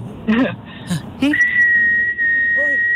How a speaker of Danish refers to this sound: eller så er det et langt fløjt. Må vi høre det? Hvor jeg ligesom holder tonen.